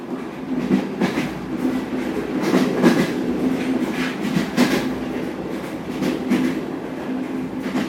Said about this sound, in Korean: 우린 같은 기차 안에서 같은 소리를 들으며 같은 공기를 마시며 서로를 느끼고 또 반응하며 그렇게 하나가 되어간다. 두근거리는 여행길, 덜컹이는 기차 안, 그 속에 너와 나, 우린 두근거리고 있다.